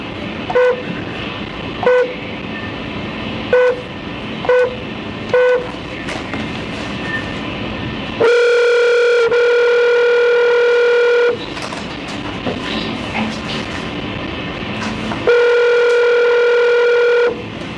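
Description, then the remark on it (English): A phone call to a pastor being dialed during an Arizona Board of Executive Clemency hearing: five short, evenly spaced beeps, then two long, loud ringing tones separated by a pause, over a steady low hum with no voices. “You have a phone number listed for your pastor, so you put a phone call in and she can get hold of him.”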